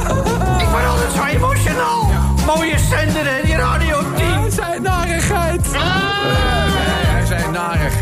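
Loud, wavering goat bleats ring out repeatedly over a steady, driving music track with a pulsing bass line, the quavering cries rising and falling throughout.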